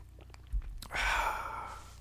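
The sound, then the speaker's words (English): A quick sip of 2015 red wine from a glass, a short airy slurp after a couple of faint clicks, followed by a soft exhale. No one speaks. “I will take a quick sip now of”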